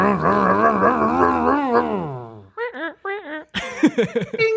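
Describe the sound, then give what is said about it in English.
A voice imitates a roaring car engine: a long, throaty revving rumble that winds down, followed by several short, choppy revving bursts. “I want to redo our engine noise.”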